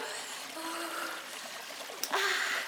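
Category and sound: nature, trickling stream water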